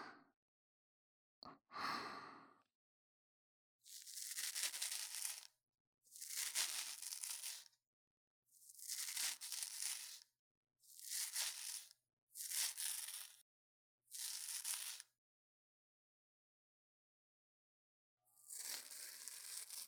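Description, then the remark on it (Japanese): Crisp scratchy strokes of sideburn hair being trimmed as a final finishing touch after blow-drying, about seven second-long passes separated by brief pauses, with no one speaking. “まずはもみあげ、こちらでしょりしょりと整えていきますね。”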